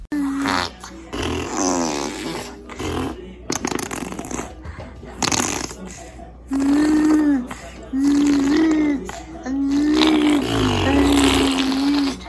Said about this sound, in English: She's turning 1 year old in 10 days as of the day that I'm recording this. She's on the move, crawling around, making these cutest little noises. Listen to these arm farts.